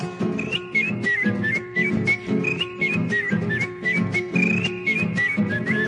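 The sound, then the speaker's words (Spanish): A bright whistled melody of short, chirping, bird-like phrases imitates birdsong, riding steadily over rhythmic strummed music with no voices. “Los más diversos cantares el monte vienen llegando, yo los recojo en el vuelo y los repito silbando.”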